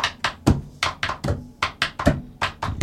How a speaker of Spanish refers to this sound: en la que tengo el lápiz suena más agudo, en la que no tengo el lápiz y golpeo la mesa, suena más grave